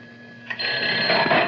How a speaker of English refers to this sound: And then when the phone rings, it goes like this. You see, it's great. See what happens. I show you.